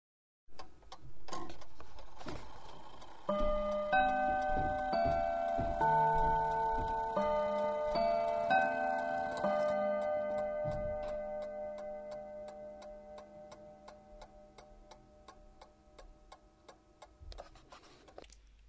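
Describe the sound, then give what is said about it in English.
A clock strikes its half-hour chime: a short melody of ringing bell tones plays over steady ticking, then the notes hang and slowly fade while the ticking continues. “This is now the half past the hour chime.”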